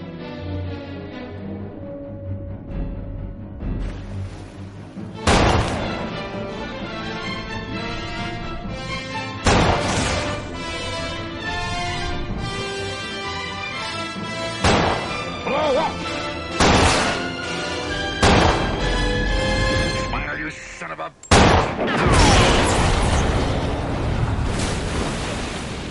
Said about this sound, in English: And he says, smile, you son of a... And he shoots that oxygen tank, and the thing blows up. All right, come on. Show me the tank. Show me the tank. Blow up!